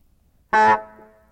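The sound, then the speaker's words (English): A single short, brassy car horn honk blares out of silence, loud, then trails off into a faint lingering ring. “All these horns are going off. Toot! Honk! Beep! Bonk!”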